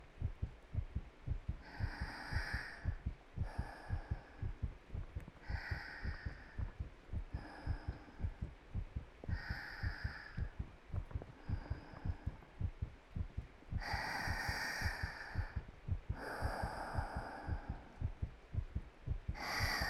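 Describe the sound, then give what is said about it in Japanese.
A steady, muffled heartbeat thumps in an even rhythm, heard with an ear pressed to a person's chest while they hug the listener's head, with slow, soft breaths rising and falling every few seconds. “心臓の音聞いたら 安心して安眠できるんだって。”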